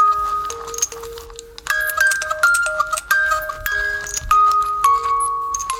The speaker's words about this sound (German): Die Glocken sind auch nicht mehr die hellsten.